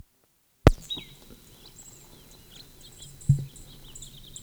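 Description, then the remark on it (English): Faint, high-pitched bird song of short chirping phrases and a thin held whistle from a bird in the upper Moline draw, answering another bird with the same song, set over a low outdoor rumble, with a couple of dull thumps and no talking. “Answered with same song from upper Moline draw bird.”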